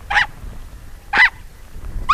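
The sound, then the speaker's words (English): An Ethiopian wolf near its den gives sharp, high yelps at a public radio reporter who ventured too close: three short calls spaced about a second apart, loud against a low rumble of background noise. “In addition to yelping at public radio reporters who venture too close to its den, the Ethiopian wolf is a creature of the day instead of the night, and howls not at the moon, but the sunrise.”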